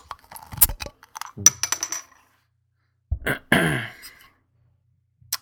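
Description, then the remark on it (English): A bottle of barley wine brewed with Belgian yeast is cracked open: a few sharp metallic clicks and clinks from the cap, then a brief gassy hiss, with quiet pauses between and no talking. “So I'm going to crack it.”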